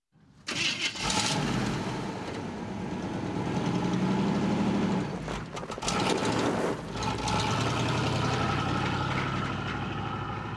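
A car engine cranks and catches, then settles into a steady, rumbling idle with a brief revving surge midway before returning to an even mechanical hum.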